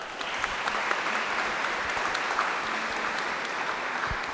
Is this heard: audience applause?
yes